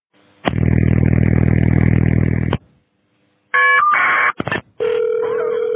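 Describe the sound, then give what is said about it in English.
A loud, harsh buzzing tone from an emergency dispatch phone system holds for about two seconds, then after a pause comes a burst of shrill electronic beeps and warbling tones. No one speaks. “It's not a gun, by the way. It's just their phone system.”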